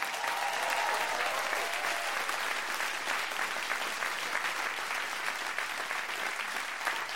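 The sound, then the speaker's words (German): A crowd claps steadily for several seconds, a dense, even wash of many hands that holds a fairly constant loudness throughout without cheers or talking, applauding a submitted question asking which animal they would like to be adopted by. “Jetzt euer Applaus für: Von welchem Tier würdet ihr gerne adoptiert werden?”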